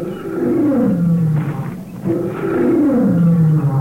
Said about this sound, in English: It's the mother lion, Louie. I know it is.